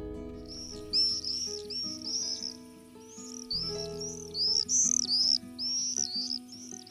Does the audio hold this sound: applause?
no